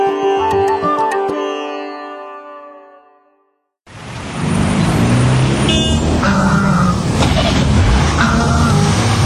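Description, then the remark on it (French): A sustained tonal passage fades to silence, then dense city traffic in Algiers bursts in: loud rumbling of buses, taxis and cars with engine noise, horns and brief higher squeals over a constant roadway roar. “Alger, par exemple, on entend que des bus, des taxis, des klaxons, il y a un bruit d'enfer.”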